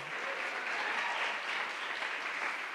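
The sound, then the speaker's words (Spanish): A crowd applauds steadily, a dense wash of many hands clapping at an even level for a few seconds with no voices standing out. “Otro fuerte aplauso para ellos.”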